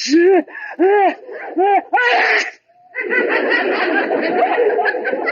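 A sneeze from inside a closet: a few quick rising 'ah' gasps build up, then a sharp, loud burst, followed by a stretch of noisy, muffled commotion.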